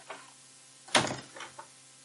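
A door swings shut with one firm, broad thud, preceded by a faint rustle and followed by a couple of softer knocks as it settles. No one speaks.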